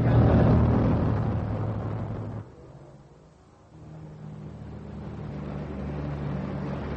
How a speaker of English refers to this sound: In a few minutes, this plane will leave on a survey trip of the Great Lake area and the Tonle Sap areas in Cambodia. Aboard the plane is Lieutenant General Raymond A. Wheeler and his Mekong survey mission.